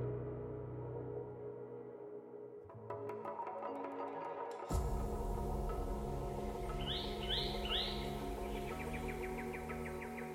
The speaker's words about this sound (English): For our final story today, we're in northwestern Australia, with one of the most prolific artists of the bird world. This is the sound of a bowerbird, one of a family of birds that take their name from the elaborate constructions they build